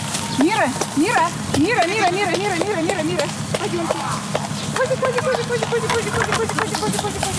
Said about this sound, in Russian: С выпаса дружина козлят, а родились они совсем недавно, в марте, и их более степенные мамы возвращаются в козлятник, где уже более плотно обедают, а ждет их сытный размол.